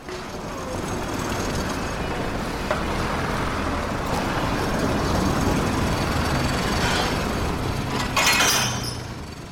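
A loud, steady rumble of an elevated SkyTrain passing overhead fills the scene, with a brief sharp metallic screech near the end before the noise starts to ease.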